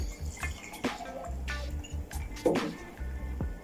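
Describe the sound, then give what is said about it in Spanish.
Mineral water splashes and trickles into a glass of ice, fruit and tequila in a short pour while making a drink, with a few drips and small clinks, fairly quiet. “Ahora sí, el tequila para que fermente la frutita y el hielo. El agua mineral.”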